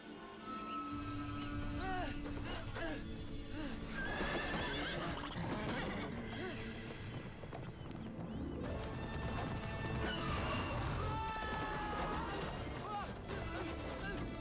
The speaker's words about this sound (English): You're being chased by a horse. We saw this little special effect last season, so it's cool that they're still doing that. It's a good thing he's not scared of the horse, isn't it?